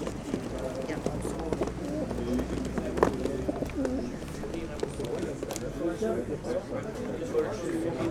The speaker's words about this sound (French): Pour ce nouveau paysage sonore, rendez-vous cette fois à Oby, près de Douai, pour un lâcher de pigeons. Il s'agit d'un concours de colombophilie.